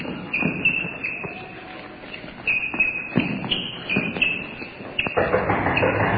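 running footsteps sound effect

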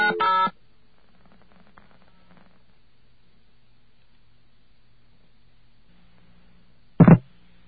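telephone dialing tones

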